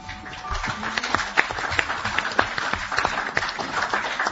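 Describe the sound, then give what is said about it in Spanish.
A crowd applauds steadily, many hands clapping in a dense, continuous patter of sharp claps that holds at an even, moderately loud level with no voices rising above it. “¿Quién empieza el aplauso?”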